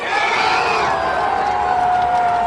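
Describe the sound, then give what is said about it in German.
A large crowd roars and cheers after a football goal, a steady wall of loud shouting with some high whoops and sustained voices carrying through. “Jeder kennt die zeitversetzten Torjubel zu Zeiten der Fußball-WM oder EM.”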